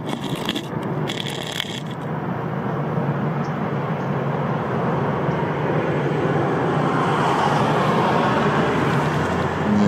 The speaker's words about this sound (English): Alright. Let's wait for a car to pass by.